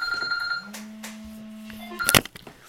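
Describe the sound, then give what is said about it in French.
A telephone rings with a steady electronic tone, a sustained beeping note holding for over a second before a brief burst of noise, clear with no talking. “Excusez ce téléphone.”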